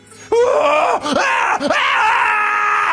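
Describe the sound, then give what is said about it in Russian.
A male patient lets out a loud, terrifying scream that bursts in suddenly and holds for over two seconds, wavering and breaking twice before surging on, raw with no talking. “Жуткий крик сотрясает воздух.”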